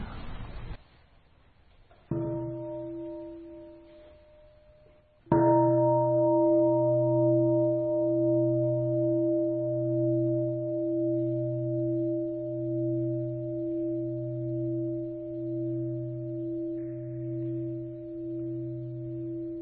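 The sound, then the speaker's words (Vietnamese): A deep meditation bowl bell is struck twice, a lighter tap followed by a full strike whose rich, steady tone rings out and slowly pulses as it sustains for many seconds, with no voices. “Bây giờ nói làm liền nha, mình thỉnh chuông các vị làm liền nha.”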